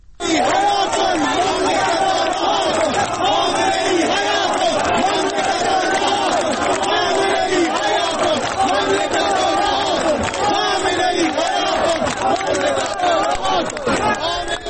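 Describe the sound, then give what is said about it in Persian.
A large protest crowd in Zahedan chants slogans together, including "Cannon, tank, firecracker, the mullah must go" and "Khamenei is a murderer, his rule is void", many voices shouting in a steady, forceful rhythm that stays loud and dense from start to finish. “ما یک صدا از معترضان از امروز زاهدان داریم که اون را ابتدا می‌شنویم.”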